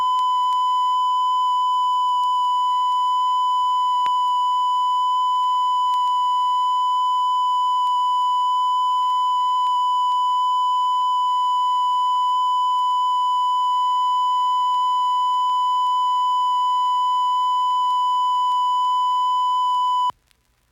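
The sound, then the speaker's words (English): A steady, loud 1,000-cycle test tone for checking a sound system, recorded with considerable distortion, harshly distorted with a buzzy edge from added overtones, holding unbroken for about twenty seconds before cutting off abruptly. “And here it is again with considerable distortion.”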